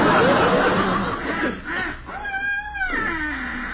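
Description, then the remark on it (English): A boy's voice imitates wild geese honking, with a few nasal, wavering honks in quick succession, fairly loud, following a breathy, noisy vocal burst. “That was geese.”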